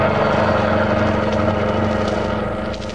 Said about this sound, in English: Get this car going.